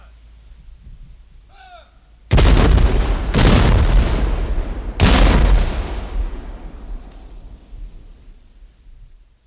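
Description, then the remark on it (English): Three field-piece cannon shots, a French gun, a British gun and a 12-pound howitzer, go off in quick succession, each a heavy boom that rolls into a long, rumbling echo. Faint chirps are audible just before the first blast. “21 cannon shots were fired and recorded”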